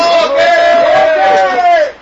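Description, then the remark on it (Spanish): A loud, sustained shout from many voices rises together for about two seconds, holding a steady pitch before trailing off at the end. “Vuelven a gritar.”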